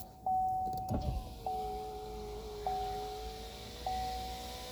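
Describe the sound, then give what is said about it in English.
A car's power window motor whirs as the glass rolls up, a steady mid-pitched electric hum running in several short pulses with a faint clunk near the start, no voices. “Let me roll that window up, see if that dog sound will go away.”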